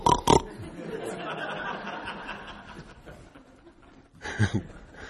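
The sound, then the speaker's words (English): A person imitates a pig with their voice: two sharp snorting bursts, then a long, rough, grunting stretch, and another snort at the end, with no spoken words. “But you also have to make the sound, you know, that's a pig.”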